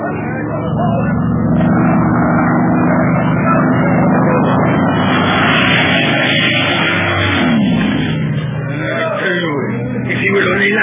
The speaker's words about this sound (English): Is a madman flying that plane? Why is he making such dives and so low? He started from a great height, Commandant Ricard. Look out, here he comes.